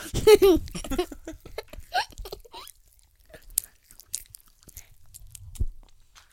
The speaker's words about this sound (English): Oh, I hear you crunching. Pass me one.